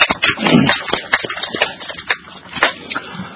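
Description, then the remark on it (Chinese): A brief round of applause from a small group at a Tuen Mun District Council meeting, congratulating the newly elected environment committee chairman, with scattered, uneven claps at moderate loudness over a few seconds and no one speaking. “人大家鼓掌祝贺。”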